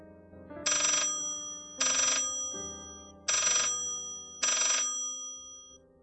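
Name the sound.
telephone ringing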